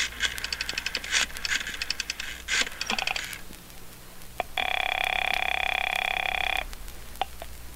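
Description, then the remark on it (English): A long-distance telephone call being placed: quick bursts of metallic clicks and chimes, then a steady two-second electronic tone and a couple of faint clicks, fairly loud with no talking. “And it's going to mean a great deal more, I believe, after I make a long-distance phone call.”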